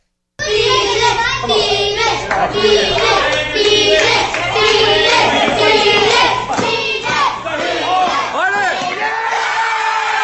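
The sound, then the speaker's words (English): A crowd of children cheers and shouts excitedly, mobbing and circling a boy after he finally kicks a board. They cheer his name, with clapping mixed in, loud and sustained throughout after a brief silent start. “They mob him and all circle around him and are jumping, just like, you know, your team won the Super Bowl, just cheering his name and everything because he finally kicked it.”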